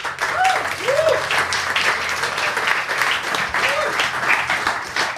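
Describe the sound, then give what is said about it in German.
Sustained audience applause for a guest on stage whose charity project helps a café, a dense wash of many hands clapping at steady volume throughout, with a few brief whoops or cheers rising above the clapping. “Ein Applaus”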